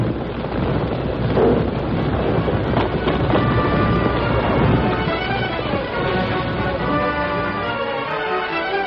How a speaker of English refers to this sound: That night, while the masked man and his friends were camped on Summit Mountain, the stillness was shattered by a landslide. Great masses of dirt, shale, rock, and huge boulders crashed down the mountainside with ever-increasing force.